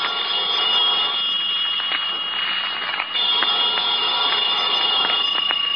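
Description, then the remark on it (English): A telephone in a hotel room, called by the desk clerk downstairs, rings continuously and loudly for several seconds, a steady metallic jangle with faint clicks running through it and no voices. “About noontime, when the phone rang, I knew it was the clerk downstairs calling because I'd left a call for 12.”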